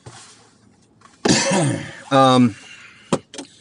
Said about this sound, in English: Sorry to cough.